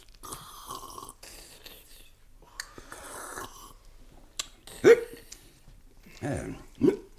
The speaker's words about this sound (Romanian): Nu știam că sughiți. Cred că sunt obosit.